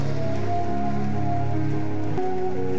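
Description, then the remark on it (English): An audience at a prayer service claps for Jesus continuously in a dense, rain-like patter, blending with sustained keyboard or organ chords; a shift in the music comes near the end. “Put your hands together for Jesus. You are not clapping very well.”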